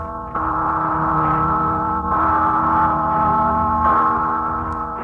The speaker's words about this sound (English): Listen, it's the Freedom Bell.